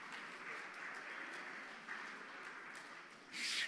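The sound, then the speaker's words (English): Steady audience applause for a brownie, a dense patter of many hands clapping at a fairly even level, swelling briefly louder and brighter right at the end. “They didn't applaud us, but they applauded the brownie.”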